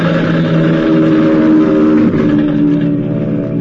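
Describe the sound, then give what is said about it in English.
A dive bomber coming out of the clouds to attack with machine guns: its engine roars loudly and steadily, a thick droning whine with layered harmonics that wavers slightly in pitch midway, with no voices over it. “And then suddenly a dive bomber was coming at us from out of the clouds.”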